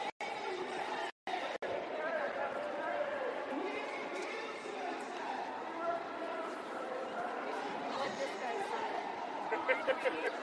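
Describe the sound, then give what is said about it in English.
Dense, steady chatter from a No Kings street protest crowd in Chicago, many overlapping voices blending into a continuous babble, with two brief dropouts early on and a few short, sharper bursts near the end. “Guys, we're moving away from the crowd.”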